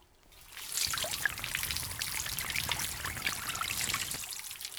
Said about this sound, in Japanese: では、お耳を流していきますね。